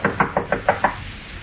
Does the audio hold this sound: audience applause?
no